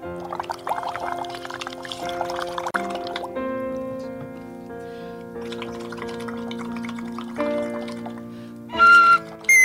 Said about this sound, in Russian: Она подняла большое пластиковое ведро над столом диджейским и заливает туда из пульверизатора мелкодисперсный, значит, пыль из воды. Зачем это делается, не знаю.